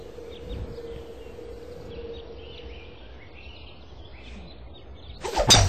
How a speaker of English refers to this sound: That's right when he winds up and he cracks the ball and it just goes on for about a million miles.